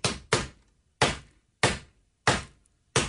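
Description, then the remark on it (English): Six sharp, loud thuds of a person banging an SOS rhythm on a countertop to make noise and get help: two quick knocks, then four slower, evenly spaced bangs, with no voices. “That's me banging Except on the counter.”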